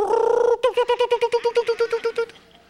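A mother hen gives a drawn-out, nasal call, then breaks into a quick, steady run of about a dozen short, mid-pitched clucks that fade at the end, with no talking.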